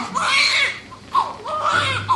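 A newborn baby cries in two long, wavering, high-pitched wails, the second rising after a brief catch of breath, loud and strained throughout, with a low steady hum underneath.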